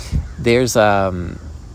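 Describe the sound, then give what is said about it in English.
A crow caws twice in quick succession, harsh, the second call drawn out a little longer than the first, with only faint background noise around it. “There's a crow.”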